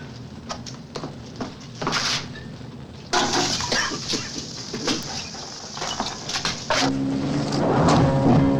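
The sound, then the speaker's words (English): Acid is poured from a full bottle onto plates lying on the floor of a print shop, splashing onto the hard metal and fizzing with a steady, crackling hiss. Sharp clinks and spatters break through, and the hissing grows louder toward the end. “When he finds a full bottle of acid, he pours it onto the plates that lie on the floor and coughs from the noxious fumes.”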